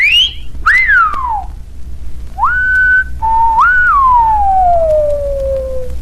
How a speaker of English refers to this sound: And I found this wonderful thing from, I think it was …, who made an instructional record on how to whistle. So pucker up.